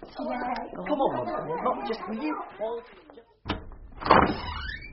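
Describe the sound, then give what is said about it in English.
A door in the toilets shuts with a sharp thud after several people chatter and laugh. A second, rougher clunk and rustle follows a moment later. “There is definitely a door closed in there.”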